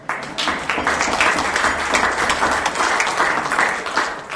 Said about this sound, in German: Ist jetzt der Moment für Applaus.